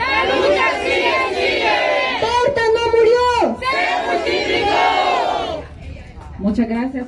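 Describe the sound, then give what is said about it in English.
A large crowd gathered outside after the guilty verdict in the Berta Cáceres murder case chants together "Berta didn't die, she multiplied", loud overlapping voices rising and falling in a rhythmic call, with a brief dip before voices resume near the end. “leads a crowd gathered outside in a familiar chant.”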